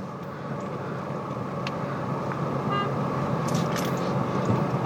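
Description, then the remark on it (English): A brief car horn toot sounds midway, just as a traffic light has turned, over a steady rumble of road traffic and idling engines, with no voices. “Why are you beeping, you fucking dumbass?”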